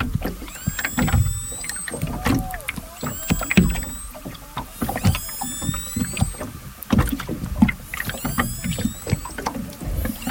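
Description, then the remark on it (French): Underwater recording, made by bioacoustician Charlotte Curé, of an orca's distress calls: a series of shrill, wavering squeals and whistles that sweep up and down, repeating in bursts every few seconds over a rumbling, crackling wash of water noise and clicks. “Parce que l'animal était bien en détresse, en témoignent ces cris que Charlotte Curé a enregistrés et m'a envoyés.”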